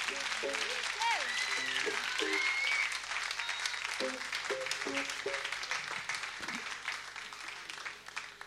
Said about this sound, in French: On applaudit